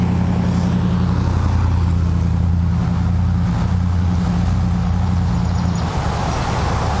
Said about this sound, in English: It's a pretty windy day out today too, so I apologize. There's a lot of noise. Let this car go past.